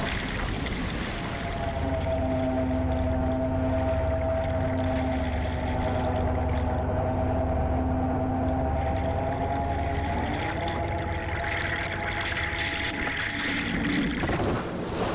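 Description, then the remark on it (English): Low, sustained droning tones with steady harmonic lines hum continuously beneath a wash of churning water noise, recorded underwater from a fishing boat, shifting pitch slightly near the end like an eerie underwater engine melody. “When the cameras get pushed back underwater, these deep drones and strange melodies almost, deep-toned melodies started coming out, which were just uncanny.”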